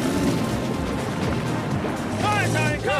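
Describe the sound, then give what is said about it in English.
A motorboat engine roars steadily and loudly as it speeds across the water, the driver thrashing the engine before a gear change while sprinting for the last stretch of water, with a voice speaking over the noise toward the end. “He's thrashing the engine now. He really needs to change gear.”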